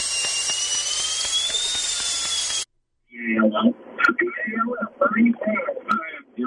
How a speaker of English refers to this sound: Give me some like dentist drill sound effects. Something that will just drive him nuts. Like it won't drive everybody else nuts.